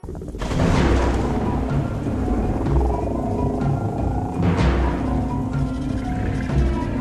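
A thunderstorm rages: a steady wash of heavy rain with deep, rolling thunder rumbling underneath, loud and continuous throughout, with no voices.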